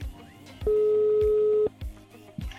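A telephone ringing tone sounds once, a steady mid-pitched buzz lasting about a second, loud over a quieter background with a regular low thumping beat.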